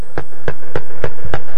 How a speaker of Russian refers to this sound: Идет мимо лисичка-сестричка. Постучала в окошко